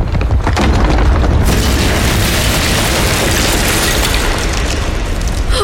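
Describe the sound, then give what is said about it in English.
A massive palace door caving in: a deep, booming crash that swells into a sustained roar of rumbling debris, loud and unbroken for several seconds with no voices. “We cleared the threshold just as the palace door caved in.”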